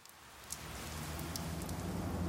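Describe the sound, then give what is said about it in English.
Steady rain falls, a dense wash of patter with a few sharper drops ticking through, building slightly in strength, with no voices present. “The rain stops.”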